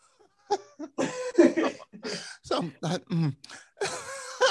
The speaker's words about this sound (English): I have never experienced a cough like that. I couldn't sleep. I could not sleep. It was bad. It was like I was coughing every time I breathed. I breathe in, I cough. I breathe in, I cough.